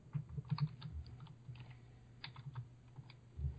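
Quick, irregular clicks of someone typing on a computer keyboard, fairly quiet, with short bursts and pauses between keystrokes and no one speaking.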